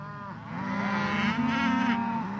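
A cow moos in a long, drawn-out low call that swells and holds for a couple of seconds, close and fairly loud, with no talking.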